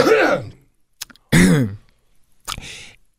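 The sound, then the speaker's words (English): A few abrupt throat sounds: a rough, voiced clearing of the throat, a short click, then another harsh burst and a breathy cough-like exhale, with brief silences between them. “Can't hit my cough button. Hold on.”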